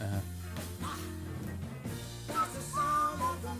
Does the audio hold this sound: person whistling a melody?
yes